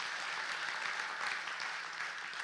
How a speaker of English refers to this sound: Let's give another round of applause for the youth, for those leaders,